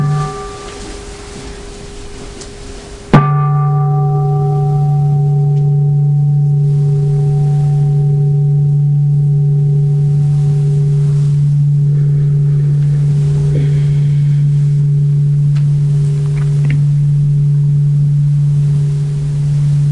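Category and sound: household object, ringing bell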